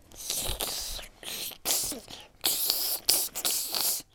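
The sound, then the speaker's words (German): A series of loud, breathy snake-like hisses, four or five sharp bursts of varying length with brief gaps between them and no talking. “Oh, Elvis, hast du es gehört? Das war Schlangensprache.”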